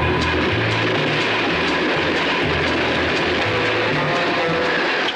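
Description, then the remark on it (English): A train at a station rumbles loudly and steadily, a continuous heavy roar of wheels and engine with faint rhythmic clatter, no voices heard throughout. “You see, it all began when he got off the train.”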